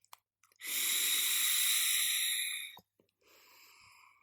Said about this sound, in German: Und der Vanille-Chai macht das Ganze cremig. Das gibt einen Geschmack eben wie Chai. Sehr gut, und ich dampfe jetzt noch einmal.